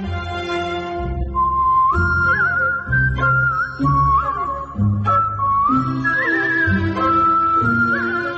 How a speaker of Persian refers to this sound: تیتراژ پایانیش رو با سوت اجرا کردم به عنوان سولیست، که تجربه خیلی متفاوت و جالب و ارزشمندی بود برام.